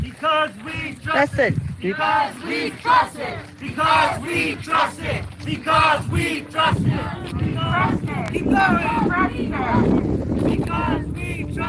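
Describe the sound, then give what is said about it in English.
A large crowd chants loudly in unison, rhythmic shouted phrases rising and falling in waves, then dissolving into a sustained roar of many voices. “And then the crowd started chanting.”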